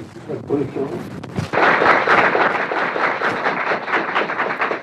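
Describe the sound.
Brief murmur of voices, then a crowd bursts into loud, sustained applause for the Marshal during a Radio Vichy morning broadcast, a dense crackle of many hands clapping that continues steadily to the end.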